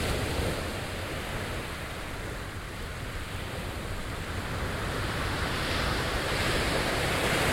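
Steady roar of ocean surf washing onto the shore, a broad continuous hiss of breaking waves that swells slightly toward the end, with no voices present.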